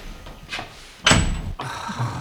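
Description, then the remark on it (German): A door with no lock slams shut down below with a single loud impact and a brief metallic ring, preceded by faint shuffling and followed by a low lingering rumble. “Die Tür hat kein Schloss, hier kommen wir nicht raus!”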